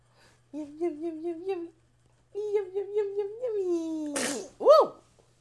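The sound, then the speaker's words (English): A single loud sneeze with a sharp burst and a rising-falling voiced 'choo', coming right after a child-like voice hums a bouncy, repeated singsong tune. “God bless you.”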